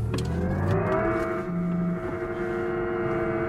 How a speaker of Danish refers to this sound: Og det her, det er jo altså uden gearskift, det vil sige, det simulerer, at jeg kører med meget, meget høje motoromdrejninger.